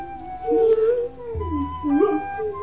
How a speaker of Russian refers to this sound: Ну что ты? Что ты, мой верный пес? Ничего страшного. Я слегка занемог. Почему ты лижешь мне руку и смотришь преданно в глаза?